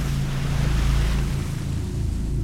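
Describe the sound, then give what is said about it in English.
Churning ocean water rumbles steadily after a huge creature plunges back into the depths, with a deep, heavy low end and a constant broad wash of surf and spray, loud, with no voices. “There was a baritone whooshing sound and then an immense slap against the surface.”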